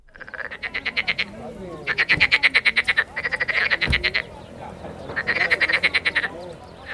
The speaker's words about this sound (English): Frogs in the marshes near Basra. The vast marshlands of southern Iraq were almost completely drained by Saddam Hussein to deny shelter to his enemies.